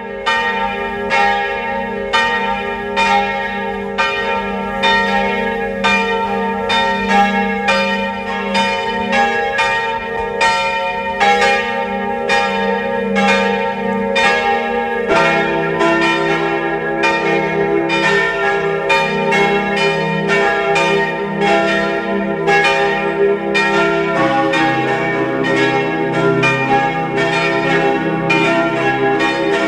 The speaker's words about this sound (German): Es ist 12 Uhr. Sie hören die Glocken der Pfarrkirche Mistelbach, Niederösterreich.